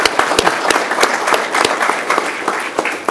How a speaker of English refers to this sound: So I just wanted to publicly thank all those folks and give them a round of applause if we could, for some of them are here, some of them aren't.